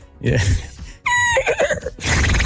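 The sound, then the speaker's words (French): A person imitates a horse whinnying with a loud, wavering, high-pitched neigh that rises and shakes, followed by breathy snorting sounds. “Moi, je sais faire du cheval.”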